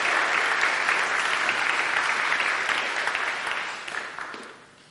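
Sustained applause from a sizable audience, a dense wash of clapping that holds steady and then gradually thins and fades toward the end.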